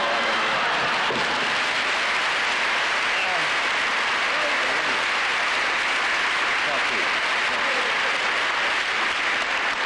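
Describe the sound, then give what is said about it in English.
An audience breaks into loud, sustained applause, a dense wash of many hands clapping that holds steady for about ten seconds without fading. “I'd rather have laughs than applause, so don't hold me back now, because I'm really gone.”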